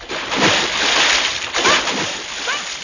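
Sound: splashing through water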